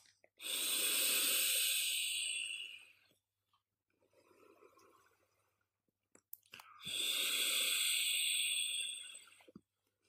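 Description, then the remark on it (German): Someone vapes a dark-chocolate and cream flavored e-cigarette liquid: a long, airy hiss of a draw, a softer breathy pause, then another strong, broad rushing exhale or puff, all without speech. “Ich dampfe nochmal.”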